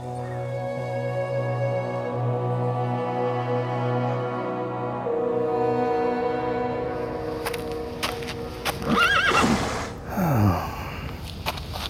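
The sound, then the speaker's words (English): A horse lets out a shaky, wavering whinny near the end, preceded by snorting breaths, all over a steady humming drone in the background. “Even the horses tense around me.”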